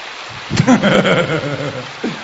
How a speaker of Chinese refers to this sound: 你们举的手掌声没了，鼓掌。